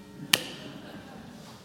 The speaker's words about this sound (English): Oh, that's the bell that says you've got like five.